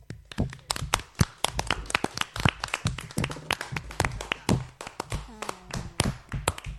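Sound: applause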